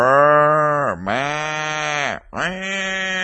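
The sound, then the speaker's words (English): Cows moo and low as they walk along, in three long, loud, drawn-out calls, each rising and falling with short breaks between them and no talking. “And that's what these cows are doing. They're mooing, they're lowing as they went.”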